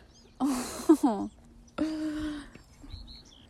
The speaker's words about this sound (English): Do you hear that bird laughing?